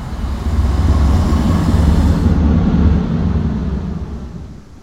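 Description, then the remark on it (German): A loud, continuous roar of a fierce storm wind and surging sea at List, with the water rising high enough to flood the town; a deep rumbling wash that swells steadily and then eases off toward the end, with no voices. “Damals kam ein fürchterlicher Sturm auf und das Wasser stand so hoch, dass ganz List unterging, bis auf die Kirche und mein Haus.”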